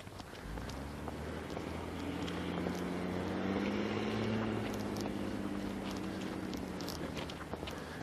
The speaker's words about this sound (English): The reason I ask is I just see the recycling truck go by and it's like, wait a minute, that's not due today. No. It's the wrong company. Wrong day.